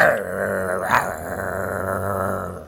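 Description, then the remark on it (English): A dog growls low and steadily for a few seconds, fairly loud, with a brief sharper swell partway through and no one speaking. “Are you petting that dog again?”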